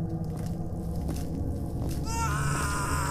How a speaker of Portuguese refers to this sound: Tem alguma coisa errada. Tá muito real esses gritos. Será? Será que tem alguém precisando de ajuda? Nossa, mas como vocês dois são emocionados, hein? É um labirinto de terror. É claro que vai ter gente gritando e um louco dando risadas.